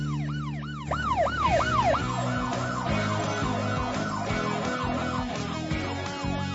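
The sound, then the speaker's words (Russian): A drone's wailing electronic siren sweeps rapidly up and down in repeated arcs, loud, layered with a busy jumble of other beeping signal tones from the drone's signals, switched on in snowy terrain as darkness approaches. “Слушай сирену дрона!”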